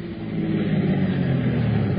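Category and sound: vehicle, car arriving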